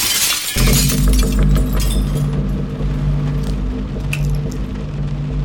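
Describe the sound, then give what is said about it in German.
A window pane is smashed in a German radio-play adaptation of Brigitte Aubert's novel Im Dunkel der Wälder. One loud, bright crash of breaking glass lasts about half a second, followed by a steady low droning hum with a few faint tinkles. “Er hat die Scheibe eingeschlagen, die Tür von innen aufgeschlossen.”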